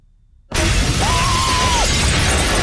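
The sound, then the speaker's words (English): Broken glass being cleared up the next morning in a London home, where the back doors have been knocked out of their frame and a Morrison shelter is full of glass: a steady wash of crunching, scraping and tinkling shards that starts abruptly after a brief silence and continues without pause. No one speaks. “The next morning, Ernest's clearing up broken glass.”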